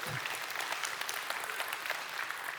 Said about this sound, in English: So I applaud you on that. You give yourselves a hand on that. That's really, really cool.